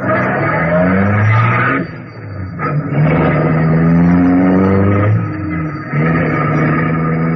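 A car engine revs hard and accelerates in repeated surges, its pitch climbing and dropping between gear shifts, with a brief tire skid as the vehicle speeds off to follow a black car from across the street.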